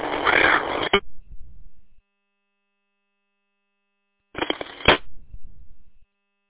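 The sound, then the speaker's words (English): Two short, harsh data-burst squawks from a Motorola MDT 1200 radio system, sent when a radio is keyed up or unkeyed to identify it, each about a second long and raspy, separated by a few seconds of silence, with a low rumbling tail after each burst. “Yeah, that system was the Motorola MDT 1200, and it had the squawk.”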